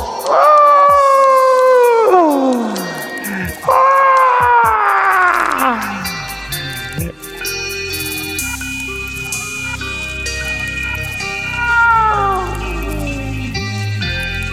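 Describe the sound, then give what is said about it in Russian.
Loud cat yowls rise and slide down in long, wavering wails, several in a row, like a fight. Steady tonal sounds fill the background beneath them. “Он снова повалил тебя. Давай хватай за ноги, бля.”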